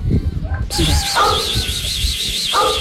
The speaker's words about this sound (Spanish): La tapa de la alcantarilla. Exactamente, y se alcanza a escuchar al perro ladrando. Está ladrando abajo.